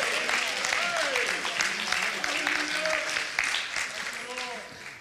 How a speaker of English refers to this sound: Oh, let's clap our hands together. Thank the Lord together.